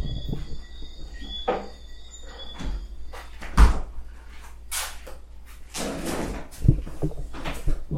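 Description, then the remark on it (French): A chair is lifted and shifted, with a series of irregular wooden knocks and thumps, one sharper bump midway, over a faint steady background hum. No one speaks. “je vais juste prendre la chaise qui est devant.”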